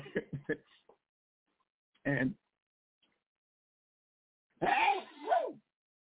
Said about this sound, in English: I just sneezed the hat trick for our family member